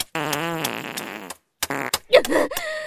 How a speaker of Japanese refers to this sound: でっかいおならでお返しするからね。どう？臭くてたまんないでしょ。